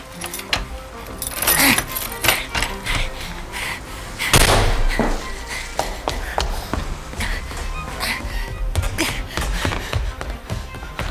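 Keys, including the key to Mrs. Winterfield's house, jangle and clink together in a metallic shuffle, with bright rattling bursts and a few sharper knocks scattered through the jingling.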